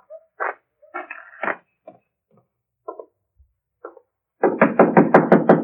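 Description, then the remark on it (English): A dog that came from the direction of Preen's cabin in the woods barks: a few scattered yaps and growly sounds at first, then a loud, rapid run of six or seven barks at the end. No one speaks. “A dog came from the direction of Preen's cabin to bark at me.”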